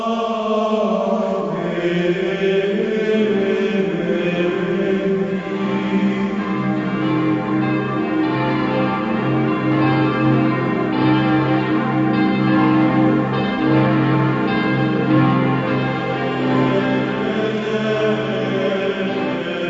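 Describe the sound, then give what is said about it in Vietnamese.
Church bells on Molokai toll a death knell for a hero who has just died, ringing steadily and loudly, their deep, lingering tones overlapping into a continuous ringing wash that fills the whole stretch with no voices. “Molokai, các chuông nhà thờ vang lên tiếng chuông cáo chung một vị anh hùng vừa tạ thế.”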